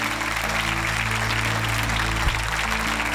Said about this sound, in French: Est-ce qu'on peut applaudir la parole que le Seigneur nous a donnée ce matin? Remercier Dieu ensemble.